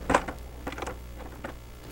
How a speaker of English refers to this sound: Damn, I'm thirsty. Let me open up the fridge to see what I got.